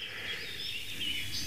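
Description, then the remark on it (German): A dense woodland chorus of many songbirds, including stock doves, wood pigeons, a song thrush, robins, a firecrest, a nuthatch, tits and blackbirds, high chirps and whistled phrases overlapping without pause, fairly soft, with no voices. “Und natürlich drumherum tobt die Vogelhölle.”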